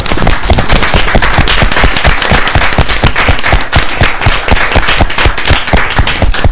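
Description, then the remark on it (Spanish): Dense, sustained applause from a crowd, many hands clapping rapidly and loudly for several seconds without pause, given on the radio show Qué Locura de Radio for people donating their clothes. “Yo quiero dar las gracias a la gente que vaya a participar entregando su ropa y pediría un aplauso para esa gente para animarles, darles más puertas.”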